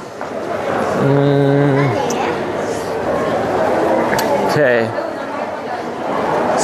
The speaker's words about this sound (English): Okay, we're at the train station. Very busy. You can probably hear there's a lot happening.